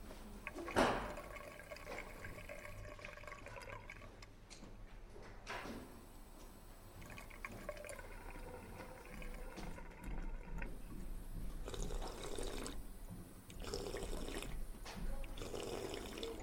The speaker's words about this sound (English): I headed into the library and refilled my water bottle at a water fountain.